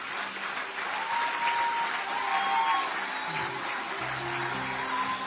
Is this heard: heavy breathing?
no